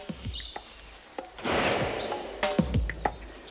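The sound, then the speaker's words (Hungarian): A single sharp gunshot bursts out midway, its noisy crack trailing off over half a second, surrounded by scattered thuds and light clicks, with no one speaking. “Mi volt ez a lövés?”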